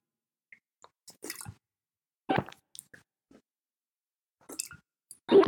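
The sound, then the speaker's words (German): A person deliberately exaggerates drinking water right at the microphone, imitating someone who swallows very loudly, making several loud, wet gulping and squishing swallows in irregular bursts separated by short silences, with no talking. “Der schluckt unglaublich laut.”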